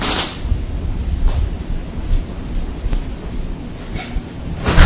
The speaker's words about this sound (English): Just as predicted, it's a thunderstorm this morning, but it's supposed to become very nice later.